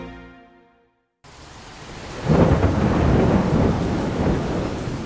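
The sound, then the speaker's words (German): After a fading musical tone and a moment of silence, heavy pouring rain rushes in, steady, with a deep roll of thunder swelling beneath it, on a hot day in Rio de Janeiro. “Es ist heiß und regnet in Strömen.”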